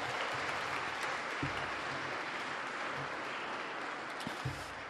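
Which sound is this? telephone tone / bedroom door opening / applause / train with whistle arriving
applause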